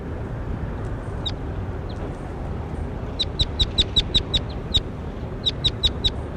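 bird, bird calling

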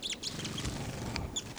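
bird, bird calling

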